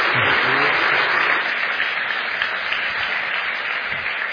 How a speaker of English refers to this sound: Give him a wee round of applause.